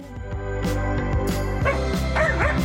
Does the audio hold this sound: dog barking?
yes